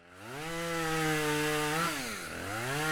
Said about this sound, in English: Sounds of first responder sirens and chainsaws clearing trees were heard around Missoula in the aftermath.